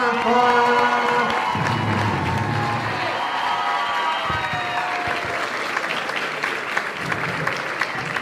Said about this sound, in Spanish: Damas y caballeros. Por favor, saluden con un aplauso y una bulla, que sienta el ki y el calor hasta que se siente, van a hacer bulla.